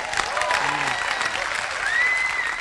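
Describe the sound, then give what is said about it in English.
A crowd cheers and applauds Governor Christie loudly and steadily after he speaks about building dunes, dense clapping mixed with whoops and a high whistle near the end, filling the whole moment with no break. “So you hear Governor Christie and the crowd going wild there for this issue.”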